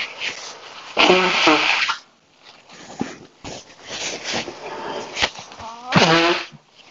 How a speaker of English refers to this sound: I just have to blow my nose. So you can pause the recording until I'm finished blowing my nose.